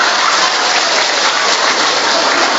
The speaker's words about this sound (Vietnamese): Thằng này hay, cho một tràng pháo tay thưa anh chị em.